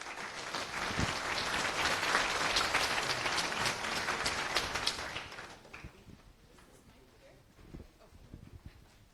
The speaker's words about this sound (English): Please give a round of applause to the next speakers.